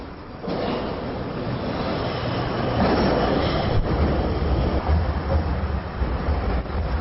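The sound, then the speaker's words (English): A subway train rumbles into a station, a steady, loud mechanical roar with rattling wheels that swells slightly as it draws near, with no voices. “The train bound for CUC is arriving.”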